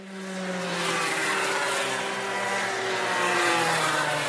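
Small go-kart engines buzz steadily around a track at a karting academy at Swarkops, driven by young pupils aged 5 to 7; a high, rasping drone that shifts slightly in pitch as the karts pass, loud and continuous with no voices.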